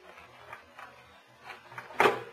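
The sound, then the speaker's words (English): Quiet metallic scraping and fiddling at a door lock, a few soft clicks spaced irregularly, ending in one sharper, louder clack as the latch gives way and the door opens. No one speaks. “Now, both of you boys keep quiet while I work on this door.”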